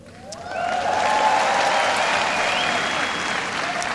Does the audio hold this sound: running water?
no